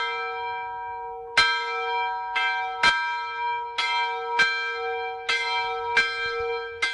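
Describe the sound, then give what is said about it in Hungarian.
A church bell, newly consecrated a few weeks earlier, rings at a retirement home in Sopron, Hungary, with strong metallic strikes about every half second to second, each leaving a long, shimmering overtone hum that sustains between hits. Clear, no voices. “Lengyel Anna beszélgetése is természetesen az új harangszavával indul.”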